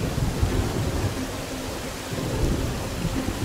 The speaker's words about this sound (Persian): همش سر یه ذره بارون.